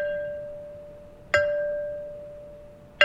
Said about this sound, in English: We needed the sound of like a bell from a boat out in the distance. Finding a bell that had that distinct kind of captain's ship bell sound was really hard to come by. A tire rim was the answer. Set it up on a wooden block, and one of our actors